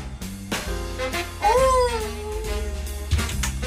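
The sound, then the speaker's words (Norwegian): Dogs howling outside in front of a building in the Skovlund area, heard through an opened window: a long, wavering howl rises and slowly falls in pitch over a steady, tonal, music-like backing, with shorter howl-like tones before it. No one speaks. “Hunde, der står og hylder herude foran.”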